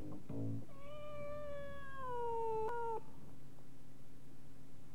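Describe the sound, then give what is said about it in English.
A single drawn-out cat meow, rising then sliding down in pitch over about two seconds, clear, with a faint low hum in the background and no one talking. “Don't forget to put the cat out”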